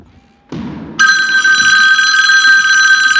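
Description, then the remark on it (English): A dull thud, then a telephone starts ringing loudly, a steady, bright electronic trill that continues without pause to the end. “Sir, I'm gonna put you on hold so I can answer this phone.”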